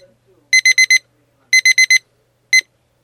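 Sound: alarm clock alarm ringing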